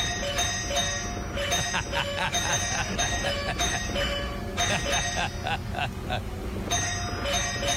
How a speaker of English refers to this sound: That's amazing. And a woodpecker can ring the doorbell real quick.